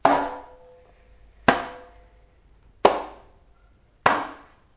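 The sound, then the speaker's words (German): Four loud, sudden splashes at steady intervals as dolphins in a dolphinarium jump over a rope, each hitting sharply and then fading quickly into quiet, with no voices. “Im Delfinarium springen die Delfine über ein Seil.”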